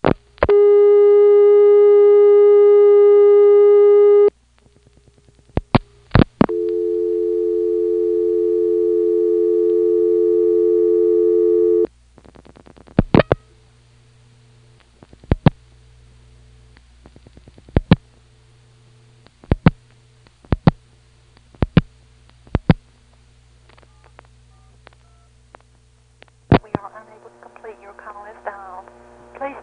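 Steady telephone tones hum, then a run of sharp mechanical relay clicks as a telephone exchange dials out all four digits of a number, spaced irregularly, ending with a warbling tone; no talking.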